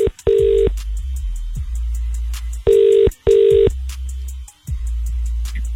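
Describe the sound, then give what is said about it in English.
A telephone ringing tone purrs through the line as radio station Capital Extra calls a listener: one short burst, a pause, then a quick double burst, steady and fairly loud over a low rumbling background, with no one talking. “Remember, if we call you now, you have to answer the phone”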